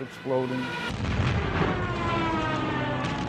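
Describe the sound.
Heavy, rumbling explosions of falling bombs and of torpedoes blowing up ships fill the scene during the Japanese attack on the US Pacific Fleet at Pearl Harbor, a sustained roar of blasts and booms, with a voice briefly audible at the start before the chaotic din takes over.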